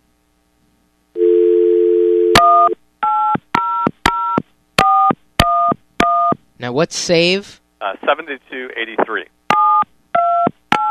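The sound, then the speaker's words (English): A steady telephone dial tone hums briefly, then a rapid series of crisp touch-tone beeps plays as a number is dialed, with a short burst of speech and a recorded voice between the tones. “I don't have letters on my phone.”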